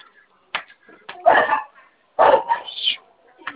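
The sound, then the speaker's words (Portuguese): A dog barks in a few sharp, irregular bursts, fairly loud, with short pauses between them and a rougher, longer volley in the middle. “Cachorro, só Deus.”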